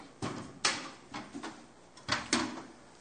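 Wooden knocks and short scrapes of two chairs being set down at a dinner table, in two loose clusters of thuds and shuffles, moderately loud, with no talking.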